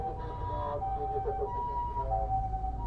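An ambulance siren wails steadily, its tone stepping between two pitches, over a constant low rumble of traffic as it passes by while the car stops to give the ambulance priority; no one speaks.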